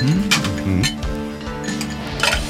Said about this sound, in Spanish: Así va la preparación. Unos hielos en un vaso mezclador.